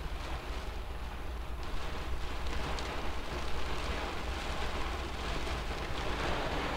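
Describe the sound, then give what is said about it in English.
Heavy rain drums steadily and densely on a car roof overhead, a continuous loud patter with a low rumbling undertone, and no voices; full-on Pacific rain and wind in the Pacific Northwest. “I love the sound of that rain hitting the roof.”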